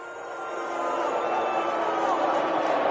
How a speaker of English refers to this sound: There's some cheers. There's some cheers. I'm not going to sit here and act like the whole stadium was booing. But you can clearly hear the boos. That's not the whole crowd behind Donald Trump.